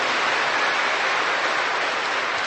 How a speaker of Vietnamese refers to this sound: Nghe anh chị em từ những giáo xứ khác đến đây, chúng ta thay lời cảm ơn ấy bằng một tràng pháo tay nồng nhiệt thưa anh chị em, thưa các bạn.